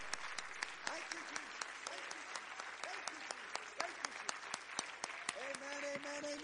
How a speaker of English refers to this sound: Oh, why don't we all clap hands in thanksgiving for the resurrection of Jesus Christ.